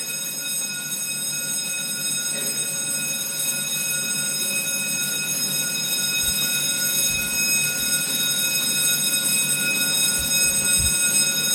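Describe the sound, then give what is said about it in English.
An alarm bell rings loudly and continuously, a steady metallic clangor with bright overtones that never pauses, over a faint low rumble and occasional thumps. “Instead of saved by the bell, I'm stopped by the bell, but let's stop for a short while.”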